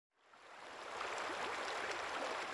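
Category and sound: nature, flowing river water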